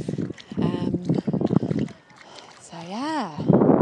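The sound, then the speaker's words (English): Low, rumbling gusts of wind buffet the microphone in short bursts between and under a person talking on a wide sandy beach, with a brief wavering vocal sound partway through. “But it's just, and now it's a bit windy. I do apologise.”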